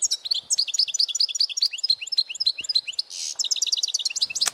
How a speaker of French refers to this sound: En Algérie, on l'appelle le maknin. C'est un petit oiseau aux couleurs vives et aux chants mélodieux.